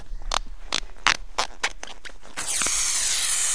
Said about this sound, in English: There's the vacuum. And that's what's sucking the sap out of the tree. So once the sap starts to flow, which the tree's not awake yet, she's still frozen. But as she thaws, that'll suck it all the way down here, down the 1 inch, down the conductor